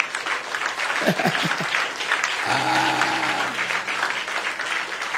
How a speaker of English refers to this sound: Okay, we want to clap and bless Jesus, right?